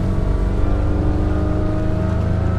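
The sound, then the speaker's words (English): A small 21-foot aluminum motorboat's engine drones loud, a steady low rumble with a faint rhythmic wobble as the hull rides over choppy water in the Delta near Stockton, California, on a mail delivery run. No one speaks. “He takes his 21-foot aluminum boat around 60 miles”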